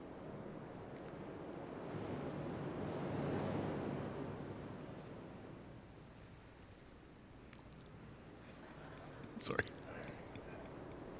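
Ocean waves wash in a broad, rushing swell that builds to a peak then recedes, with a steady low roar underneath and a brief splash or clatter near the end. No one speaks.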